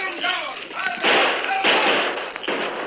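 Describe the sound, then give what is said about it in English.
A side door bangs repeatedly, three loud, harsh bursts roughly half a second apart over a steady rushing noise, with muffled voices underneath at the start. “Somebody hang up that side door!”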